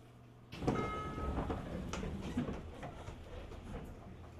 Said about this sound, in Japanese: 再度ドアが開きます。開くドアにご注意ください。